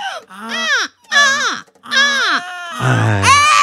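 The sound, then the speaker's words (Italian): A person imitates seagull cries: three loud, rising-then-falling squawks with short gaps between them, followed by a rougher, lower fourth cry that sounds almost crow-like. “Qualcuno che faccia i gabbiani.”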